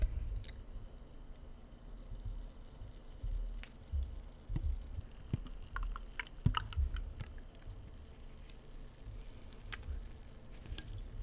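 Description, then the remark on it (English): A raspberry sour jelly beer from Red Racer is poured from a can: a low, steady glugging rush with scattered fizzy crackles and small pops as the foam rises, and no one speaking. “Comes in cans. Let's give it a pour.”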